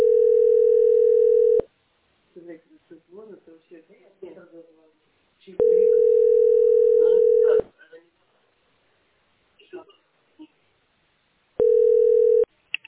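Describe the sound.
A steady, mid-pitched telephone dial tone sounds in three long beeps, each lasting a second or two, with someone talking in the gaps between them.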